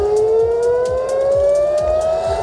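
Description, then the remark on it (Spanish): A loud air raid siren wails steadily in an Israeli city such as Tel Aviv during an Iranian attack, its tone slowly rising, with a low rhythmic thumping and city noise beneath; no one speaks. “Las sirenas han vuelto a sonar en ciudades como Tel Aviv, ya que la Guardia Revolucionaria iraní ha atacado puntos como el aeropuerto de Ben Gurión y objetivos de Israel como centros de investigación biológica y bases logísticas.”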